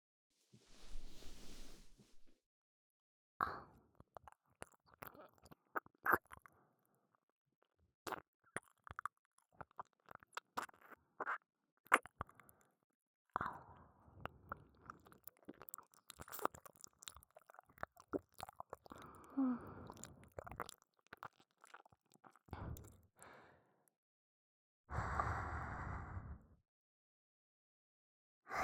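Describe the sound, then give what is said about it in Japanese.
Wet licking and smacking mouth sounds come in irregular bursts of soft clicks and squishes, with brief pauses between them and a breathy exhale near the end. There is no talking. “じゃあ逆も舐めてあげるね。”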